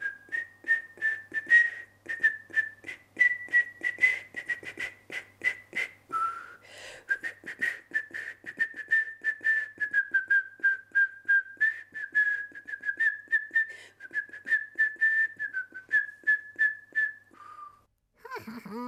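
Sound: person whistling a melody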